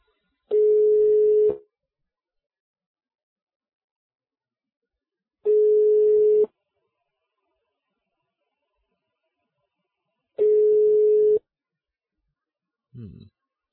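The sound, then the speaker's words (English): A phone line's ringing tone on a Skype call to a number in the Netherlands: three steady one-second beeps spaced about five seconds apart, clear and alone, with a brief voice fragment starting at the very end. “Okay, that sounds like it's ringing.”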